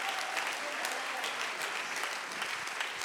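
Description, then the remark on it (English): An audience claps steadily for about three seconds as a hand clap of praise, a dense, even wash of many hands at a moderate level, with no pauses or clear individual claps standing out. “Come on, would you give him a hand clap of praise right now?”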